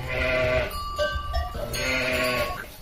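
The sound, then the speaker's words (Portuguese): Bordaleira dairy sheep, whose milk makes Serra da Estrela cheese, bleat in a wavering chorus: two long, strained bleats frame a shorter cluster of calls from other animals in between, with no talking. “O leite das ovelhas bordaleiras é responsável por uma das grandes iguarias nacionais.”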